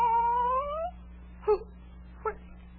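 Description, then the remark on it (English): A cat up in a tree lets out one long, drawn-out meow that rises in pitch, followed by two short, softer mews spaced apart, all fairly quiet over a low steady hum. “it's the Cheshire Cat from the Duchess's”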